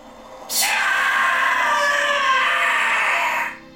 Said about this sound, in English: lets out a high-pitched screech like the shriek of a whistle.